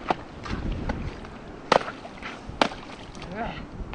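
Someone chips through pond ice with irregular sharp strikes, two hard cracking blows standing out among lighter scraping hits. A faint voice murmurs briefly near the end.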